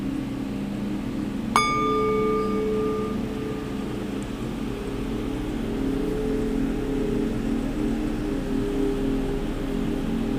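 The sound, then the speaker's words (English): A singing bowl is struck once, its bright metallic ring decaying over a couple of seconds, heard against a steady low hum with no one talking. “So I'm realizing you need special mics for these sound bowls to hear the residue when you sweep them, when you go around the bowl, because I'm not hearing it, but it's okay.”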